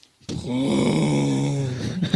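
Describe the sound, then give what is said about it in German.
A voice imitates a tractor engine with one steady, low, buzzing drone held for about two seconds, its pitch sagging slightly as it fades out at the end. “Oh, der hat aber keinen Sprit mehr, der Traktor.”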